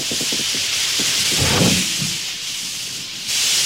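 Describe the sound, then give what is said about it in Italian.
A train pulls in with a steady, loud rushing hiss over low rumbling, a few quick rhythmic knocks early on and a swell of heavier rumble midway; no one speaks. “In questa edizione dell'Ombelico del Mondo sta arrivando un treno.”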